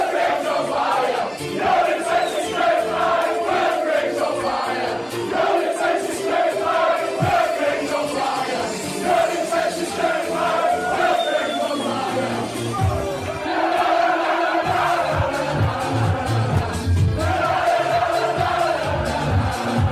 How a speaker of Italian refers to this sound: È in questo clima di festa che i tifosi del Wigan inventano un coro dedicato al centravanti della squadra, adattando il testo di una hit dance degli anni 90.